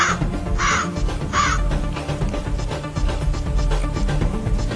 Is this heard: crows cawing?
yes